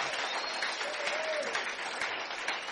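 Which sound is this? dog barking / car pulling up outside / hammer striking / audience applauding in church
audience applauding in church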